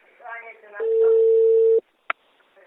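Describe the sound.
A telephone rings with one loud, steady electronic tone lasting about a second, cutting in after a moment of talking and followed by a sharp click.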